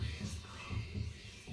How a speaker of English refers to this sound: It's a sound effect of a heartbeat, yeah.